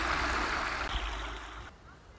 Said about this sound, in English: In front of me, there's a huge bank. And under it, there's a concrete archway which is channeling the water of this stream down towards where the water treatment works once stood.